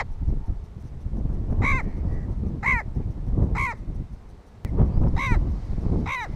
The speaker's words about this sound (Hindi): ये आवाज़ें मिस्री गिद्धों की हैं जो पाकिस्तान में मेहमानों के तौर पर आए और फिर यहीं के हो गए। सहराए थर मुल्क का वो वाहिद इलाका है जहां आज भी न सिर्फ गिद्ध बाकी हैं बल्कि ताज़ा तरीन सर्वे के मुताबिक इनकी तादाद मुसलसल बढ़ रही है।